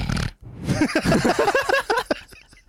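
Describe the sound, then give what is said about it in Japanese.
A person mimics a pig, making a burst of nasal, snorting oinks and grunts, several rapid squeals in a row after a brief pause, with no clear words spoken. “いや違う、なんか豚っ鼻だったから。”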